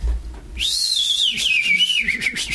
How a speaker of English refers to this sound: I gave a little whistle, you know? Give a little whistle, you know? And I thought, well, you know, she'll hear my whistle. She knew I whistled like that.